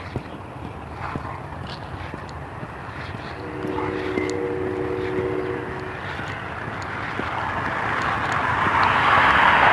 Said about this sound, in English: Cars rolling around here. This is a Sunday morning.